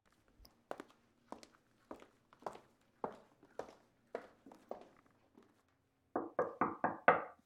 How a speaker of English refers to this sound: You always want to knock on Koala's door. Trust me on this.